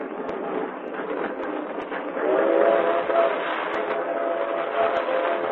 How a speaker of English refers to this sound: Trains cross the continent in a swirl of dust and thunder. The leaves fly down the tracks behind them. The great train cleaves through gully and gully. They rumble with smoke thunder on the bridges over the brown wash of mighty rivers.